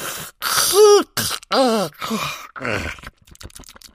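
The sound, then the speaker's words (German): A long, drawn-out vocal yawn with the mouth opened wide, as the story character Oma Krumpfling yawns, voiced and theatrical, with a rising-falling moaning pitch that stretches over a few seconds before trailing off into breathy quiet. “Du kannst jetzt gehen, erklärte Oma Krumpfling großzügig und gähnte mit aufgerissenem Maul.”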